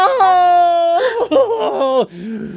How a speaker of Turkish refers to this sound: Sakın ayağımı öpmeyin. Geç kalmıştır. Kadın hararetle ayağına sarılmıştır. Adam acıyla haykırır.